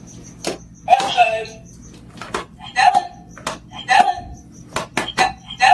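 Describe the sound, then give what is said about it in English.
A puppy named Stella repeatedly stepping on recordable talking buttons (trained with words like outside, play, water): a quick series of sharp plastic clicks, each followed by a short burst of recorded speech, coming close together and insistently over several seconds. “Here's some sound from the first video she put on Instagram, which shows a very insistent Stella stepping on her buttons.”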